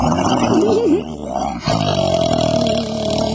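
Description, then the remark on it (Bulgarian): A father imitates a lion's roar, acting out the lion with paws and a fierce grimace: a deep, gravelly growl that wavers in pitch, breaks off briefly, then rumbles on as a long, steady rasp. “И бащата показва как прави лъва с лапи и муцу на страшната гримаса.”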